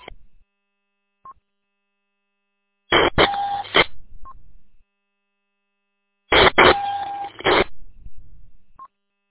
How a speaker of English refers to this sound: That's funny. Somebody is Morse coding. That's funny.